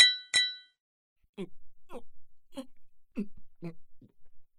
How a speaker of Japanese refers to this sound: ほら、グラスを持て。 二十歳の誕生日おめでとう、乾杯。